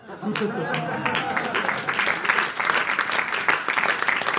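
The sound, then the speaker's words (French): A crowd applauds steadily, with dense overlapping claps, while voices murmur and chatter underneath throughout. “Ah mais à un moment donné, faut applaudir.”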